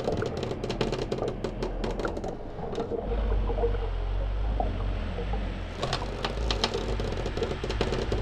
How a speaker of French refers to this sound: Ina part sur une barque tractée par son pingouin. Elle croise de grands bateaux et se repère grâce à la boussole de sa grand-mère.